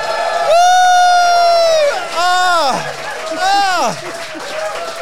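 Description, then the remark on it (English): A live audience at the London Eurovision Party roars and cheers loudly, with high, sustained whoops and shrieks rising and falling in several waves over a constant bed of audience noise. “Listen to that roar.”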